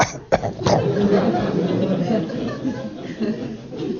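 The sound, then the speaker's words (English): A man makes a few short, sharp coughing sounds, imitating a cough, followed by a rough, throaty vocal rasp that trails off. “Well, it's hilarious when you try to cure somebody's cough by curing his body ailments, that when you exteriorize him, you find out that it is the thetan who's coughing.”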